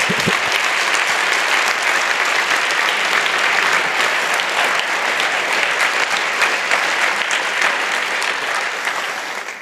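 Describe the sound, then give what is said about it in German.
A conference audience claps steadily for the interpreters in the translation booth, a dense wash of applause that holds strong for the whole stretch and only eases slightly at the very end, with no voices on top. “Ich finde, da haben sich die Leute, die da hinten immer in der Kabine sitzen, da ist es dunkel und eng, auch mal einen Applaus für verdient.”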